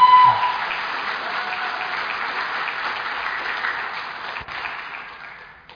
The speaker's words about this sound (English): If we'd have a round of applause for our student.